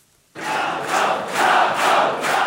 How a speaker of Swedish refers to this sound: När vallokalsundersökningen presenterades igår kväll så jublades det på Rafał Trzaskowskis valvaka här i Warszawa. Undersökningarna förespådde då nämligen en hårfins tunn seger för Warszawas liberala borgmästare